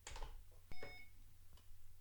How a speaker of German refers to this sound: So, dann piepst es nur einmal. Und ist auch schon gleich einsatzbereit.